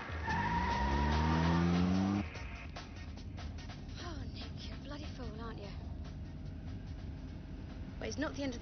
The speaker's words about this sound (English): They get in and drive off.